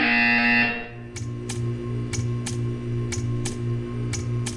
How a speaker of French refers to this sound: Vous allez entendre une sonnerie. Veuillez alors contempler l'art.